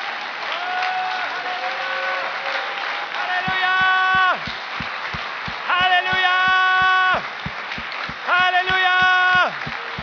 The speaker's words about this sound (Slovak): Postavme sa. Aleluja. Ak tlieskate Pánovi, dajte mu väčší potlesk. Aleluja.